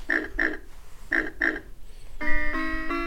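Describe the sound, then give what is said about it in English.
A pig oinks in two quick pairs of short grunts, clear, in a children's animal-sound game featuring a pink pig, followed by a brief bright musical chime. “This is the pink pig.”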